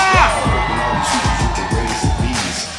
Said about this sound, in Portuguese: Cadê o grito da galera de Madureira?